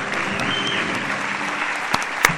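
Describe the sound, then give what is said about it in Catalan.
A crowd applauds steadily as the Christian captain of 2024 is presented at the festivities, a dense wash of many hands clapping at an even loudness, with a couple of sharper claps standing out near the end. “Un fort aplaudiment.”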